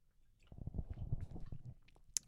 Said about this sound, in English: Okay. I had to take another sip of my drink.